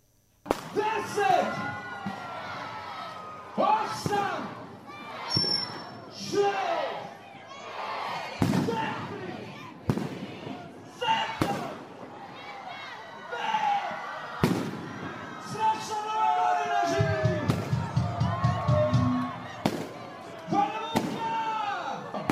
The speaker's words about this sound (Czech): 2015. godinu građani Banja Luke dočekali su na Trgu Krajine uz tradicionalno odbrojavanje i vatromet.